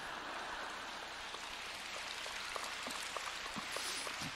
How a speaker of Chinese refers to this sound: 怎么鼓掌声音一点都不响？